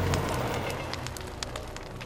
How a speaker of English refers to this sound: Maria hears another sound, fire. The roar is unbelievable, like a freight train.